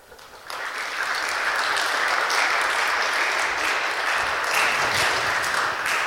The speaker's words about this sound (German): Danke für euren großen Applaus.